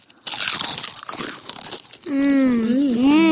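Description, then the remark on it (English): Loud crunching of a salted potato chip for about two seconds, a rapid crackly bite-and-chew, followed by a drawn-out hummed vocal sound with a wavering pitch. “That is what a potato chip is supposed to taste like.”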